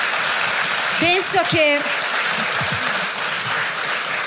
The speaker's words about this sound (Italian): Facciamo un applauso. Grazie.